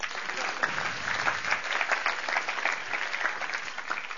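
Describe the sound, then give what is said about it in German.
Steady applause from a group, dense overlapping claps forming a continuous bright wash at an even level, with no voices standing out. “Trotzdem Applaus.”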